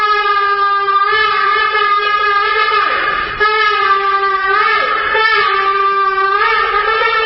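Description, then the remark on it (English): A shofar ram's horn sounds one long, loud, brassy blast at the St. Regis Hotel in Abu Dhabi, signalling the start of talks between an Israeli delegation and UAE negotiators. It holds a steady pitch for about seven seconds, wavering briefly twice along the way. No one speaks. “The sound of the shofar, a ram's horn, at the St. Regis Hotel in Abu Dhabi was the signal for the beginning for the talks as the Israeli delegation met with UAE negotiators.”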